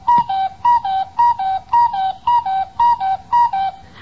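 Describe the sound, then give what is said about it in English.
A cuckoo clock, its hands just pushed round to 8 o'clock, calls eight times, each call a clear two-note whistle falling from a higher to a lower pitch, repeated at a steady, even rhythm with no talking. “I'll be right with you as soon as I check this cuckoo.”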